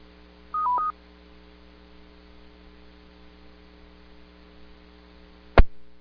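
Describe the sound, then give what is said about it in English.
A quick burst of amateur radio repeater control tones, a few beeps in under half a second, as the tones are brought down to return the repeater to normal amateur use, over a steady electrical hum, followed later by one sharp click. Nobody speaks. “I'll now bring down the tones and return the repeater to normal amateur use.”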